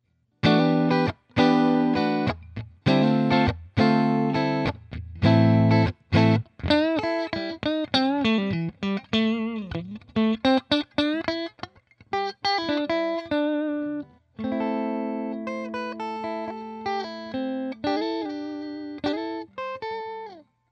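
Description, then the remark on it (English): A clean electric guitar, a 2015 special edition Art Series Stratocaster, on the hum-canceling neck-and-middle pickup setting with reverb off, plays chords and melodic phrases, bright, with slight echo from a bouncy room; steady strummed stabs give way to flowing single-note lines, no voices. “Here's neck and middle positions. Again, hum canceling due to the wiring.”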